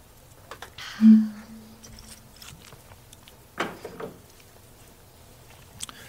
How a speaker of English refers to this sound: Okay. A little sip.